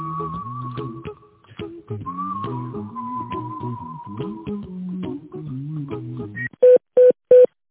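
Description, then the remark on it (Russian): A tinkling melodic phone hold tune plays on an automated company line, then three loud, evenly spaced touch-tone beeps cut in as an employee's extension number is keyed in. “Пожалуйста, дождитесь ответа оператора или наберите добавочный номер сотрудника.”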